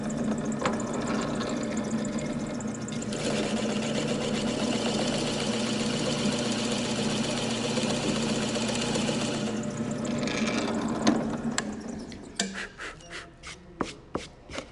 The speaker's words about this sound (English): you can hear the equipment like chop saws, laser cutters, sanders, and more